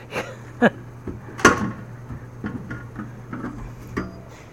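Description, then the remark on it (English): A soda vending machine near a pool drops a can on a Tuesday evening, with two sharp clunks standing out over a steady low electrical hum and a few softer knocks and rattles afterward. “It is Tuesday evening, and I am at the soda machine near our pool, getting myself a soda.”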